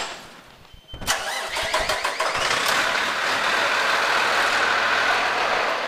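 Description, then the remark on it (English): A heavy fire truck engine cranks with a quick series of sputtering bursts, catches, and settles into a loud, steady rumble as the truck is about to be taken out. No one speaks. “Okay, pull your stuff. I'll take her out. Back this truck in.”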